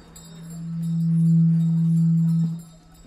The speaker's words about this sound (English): Hairdryer again. I wonder what that is.